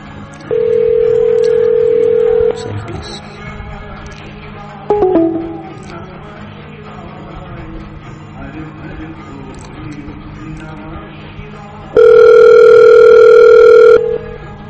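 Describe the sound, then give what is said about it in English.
After a man picks up the phone and hangs up, a loud, steady telephone dial tone drones for about two seconds, followed by a click and a stretch of low background murmur, then the flat dial tone returns just as loudly. “picked up the phone, but he hanged up.”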